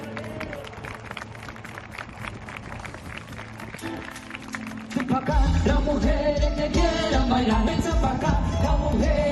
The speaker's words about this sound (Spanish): Bueno, esos aplausos que has escuchado son de los vecinos de Noia.